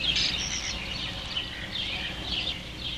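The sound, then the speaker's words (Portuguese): A sabiá thrush sings, its bright, high whistled phrases rising over a steady outdoor hiss, with no voices. “Já pensou se o sabiá desaparecesse como aconteceu com os dinossauros? A gente nunca mais ia poder ouvir a melodia cantada por eles.”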